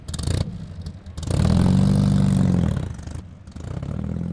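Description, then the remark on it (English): A fast car's engine at the Paonia High School homecoming parade, which the Colorado Grand car tour joined, roars loudly for over a second, a deep, steady throaty growl, framed by quieter rumbling and clatter before and after. No one speaks. “Last Friday, Paonia High School celebrated with a parade and some fast cars.”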